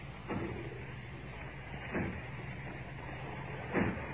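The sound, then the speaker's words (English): Three heavy, evenly spaced thuds boom over a steady rumbling background, like people pounding hard to break down a factory door, sounding muffled. “As if they were breaking down the door.”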